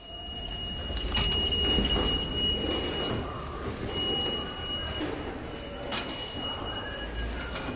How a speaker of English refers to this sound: The sounds of the subway. We hear them so often that it's easy to take them for granted. But pay attention for a moment.